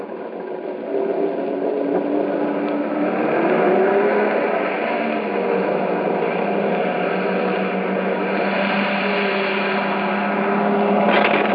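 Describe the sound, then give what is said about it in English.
A heavy truck engine rumbles steadily as it slowly backs up toward another truck on a ridge to transfer the load, ending in a brief, dull bump of metal against metal as it hits that truck's back end. “He was watching to keep me from bumping the back end, but I hit her anyway.”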